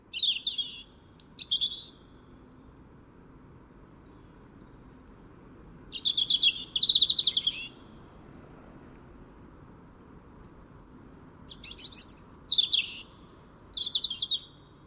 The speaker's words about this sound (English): And literally we just stood underneath these birds for several minutes and recorded this really beautiful, liquid song of these birds singing their hearts out in the middle of winter.